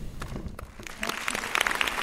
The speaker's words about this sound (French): Et on a un super message, ce sont les applaudissements du public pour la Maison des Femmes. On applaudit encore bien fort, s'il vous plaît. Bravo.